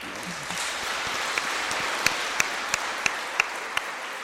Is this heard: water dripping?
no